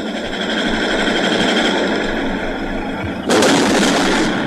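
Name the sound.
gunfire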